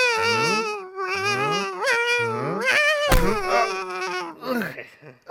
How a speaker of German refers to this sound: Da schreit doch einer. Ja, genau. Ein Seeungeheuer.